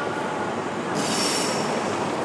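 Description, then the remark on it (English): A loud, continuous rumble of an HST diesel high-speed train arriving, with a steady roar of wheels on rails and a high metallic whine rising partway through, no voices. “Well, sounds like we've got an HST.”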